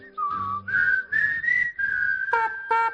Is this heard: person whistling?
yes